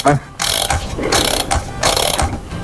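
An alarm clock is wound by hand: three short bursts of loud, dry ratcheting clicks, each lasting a fraction of a second, with brief pauses between the turns.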